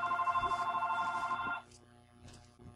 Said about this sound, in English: oh my God, I can't believe it interrupted my... It's the phone! Hold on one moment.